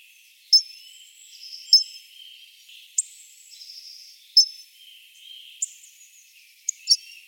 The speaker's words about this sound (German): und einfach einen ziemlich massiven, kurzschwänzigen, dicken Fink. Ja, schön zusammengefasst. Und wir hören ihn uns nochmal an, den Gesang.